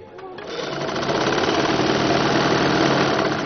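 A sewing machine runs steadily, its rapid mechanical whir and clatter starting up quickly and holding an even, fairly loud rhythm throughout.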